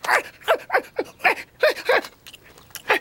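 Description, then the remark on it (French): Bill, the dog from Boule et Bill, barks and whimpers in a rapid, uneven string of about ten short yelps, each sliding downward in pitch, with brief pauses between bursts and no talking. “Il est complètement dingue, ce chien!”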